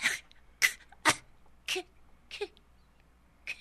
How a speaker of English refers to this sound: What, dear? Didn't you hear that? The child coughed. She coughed!